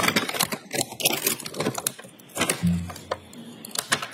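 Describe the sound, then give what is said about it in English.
A brown paper bag containing a bracelet, an evidence exhibit, is opened, with a steady run of irregular crinkles and rustles over several seconds and no one speaking. “Can you open the bag and confirm the bracelet inside?”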